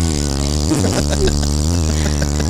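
A motorized scooter hums along steadily, its low buzzing motor tone holding even and loud, dipping briefly in pitch before settling back to a constant drone. No one speaks.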